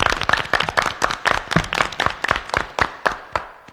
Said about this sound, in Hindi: अच्छा हाँ तो मेहरबानो कदरदानो थूकदानो पायदानो बेईमानो एक बार खेल शुरू करने से पहला जोरदार ताली बजा दो।